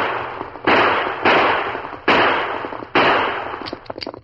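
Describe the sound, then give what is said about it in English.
Four loud, sharp gunshots fired by a rider from a galloping horse in the woods ring out at uneven intervals, each cracking sharply and then trailing off in a long, rumbling decay, followed by a few faint clicks and taps. “The fast pace of his horse spoiled his aim, and having emptied his gun, he spurred his horse in the effort get away.”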